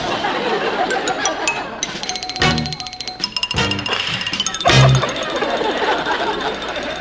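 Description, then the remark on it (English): A telephone rings in a few short, clattering bursts, a bright metallic jangle over a steady busy hum of background clinking and murmur. “Telephone again.”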